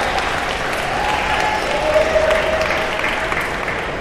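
A large audience claps steadily and enthusiastically, a dense wash of applause that holds at a fairly even loudness for several seconds, with faint crowd murmur mixed in.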